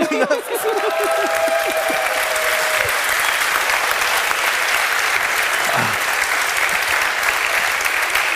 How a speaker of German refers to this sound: Hast du gehört, wie die Leute bei weniger Niveau geklatscht haben?